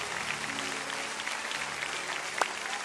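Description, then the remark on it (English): A large crowd applauds steadily, dense clapping with a few scattered cheers rising above it, sustained throughout at moderate loudness, cheering in people as they stand up all over the building. “Come on, Lakewood, let's cheer them in.”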